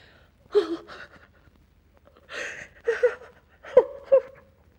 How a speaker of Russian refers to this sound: Это ты плачешь? Почему ты плачешь? Тебя что, кто-нибудь обидел?